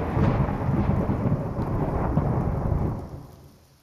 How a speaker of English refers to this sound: I don't like thunder.